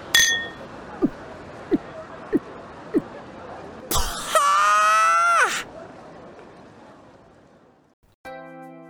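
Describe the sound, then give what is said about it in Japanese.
Glasses clink together in a toast: four light, ringing taps spaced evenly about a second apart, followed by a loud, wavering tonal sound that slides downward before cutting off. “それじゃお前の新しい門出を祝して乾杯。”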